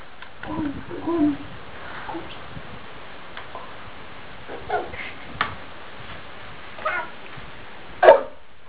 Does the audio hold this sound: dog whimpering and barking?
yes